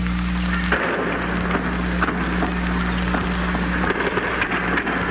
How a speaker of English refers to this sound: Egypt's planes, British-made Spitfires, roared the Arabs' defiance over Tel Aviv, provisional capital of Israel. Now to a Tel Aviv housetop as the first Spitfires come over